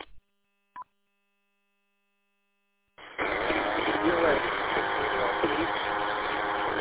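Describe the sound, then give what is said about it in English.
Two amateur radio stations transmit at once during a net check-in, one of them a station from Beaver Township. After a couple of short clicks and a few seconds of silence, a loud, steady burst of garbled, overlapping voices and hiss fills the rest. “Okay, there was a double there.”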